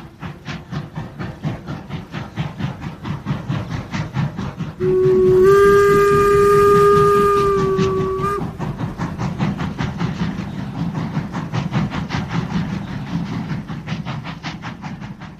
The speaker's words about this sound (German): Der Zug aus Paris war seit Ewigkeiten unterwegs. Für die 750 Kilometer in den Süden bis nach Arles brauchte er im Jahr 1888 16 Stunden.